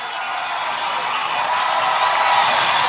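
A crowd of hockey fans at a Fargo versus Storm game cheers steadily after a stoppage in play and a penalty on Fargo, a loud, dense wash of roaring voices with scattered whoops rising over it, building slightly toward the end.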